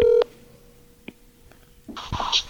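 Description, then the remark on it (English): Telephone keypad tones: a short, loud electronic beep, then quiet with a faint click, and a brief cluster of buzzy tones and noise near the end. No one speaks. “I'm gonna get this no-name fucker on the phone.”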